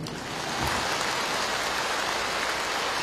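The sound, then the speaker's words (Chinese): A crowd applauds in a dense, steady wash of clapping that swells in quickly and holds at an even, loud level throughout, with no voices over it. “哎，这样鼓掌就恰到好处啊！”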